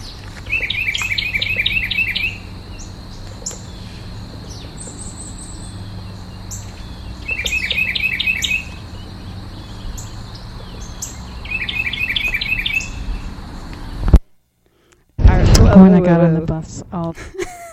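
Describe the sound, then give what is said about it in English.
A bird sings in a backyard in the morning in three separate bursts of rapid, high-pitched trilled notes, spaced several seconds apart over a steady background hum, before a brief cut and a louder closing sound. “So if you know what kind of bird that is, give us a call,”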